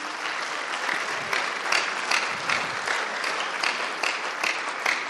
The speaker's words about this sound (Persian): میخوام که ایشون هم بلند شن، دوستان تشویقشون کنم.